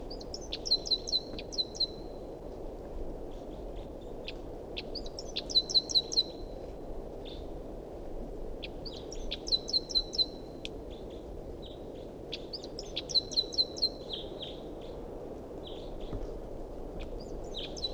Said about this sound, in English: Now back to the wild bird.